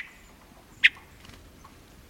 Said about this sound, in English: Spend time around hermit thrushes in a mountain forest in summer, and you're also likely to hear them make other sounds, such as...